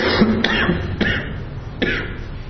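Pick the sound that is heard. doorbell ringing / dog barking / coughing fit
coughing fit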